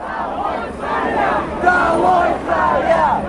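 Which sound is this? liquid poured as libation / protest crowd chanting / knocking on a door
protest crowd chanting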